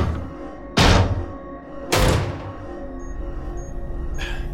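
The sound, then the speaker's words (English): Someone knocks on a sealed vacuum door: two heavy, booming knocks on a thick metal door, about a second apart, followed by a fainter third thud, over a steady low mechanical hum with a few soft high beeps. “That vacuum door I just sealed. Someone's knocking on it.”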